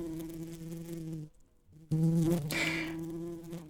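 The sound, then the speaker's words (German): A steady drone of bees buzzing with a low humming tone, briefly dropping away mid-clip before swelling back louder, with no voices present. “Ich gebe ja zu, dass ich schon wusste, dass Bienen irgendwie ganz, ganz coole Tiere sind und dass die auch irgendwie ganz schlau sind.”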